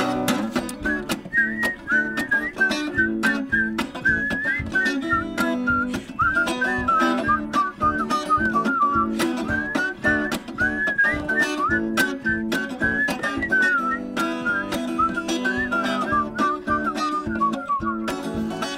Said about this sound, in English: Oh, here we go. Okay, everybody whistle.